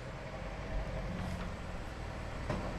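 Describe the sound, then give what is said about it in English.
A car pulls up with a steady low engine rumble and road noise, holding at a fairly constant moderate level throughout, with a few faint clicks and no voices. “Okay, oh, here he comes now. There's his car.”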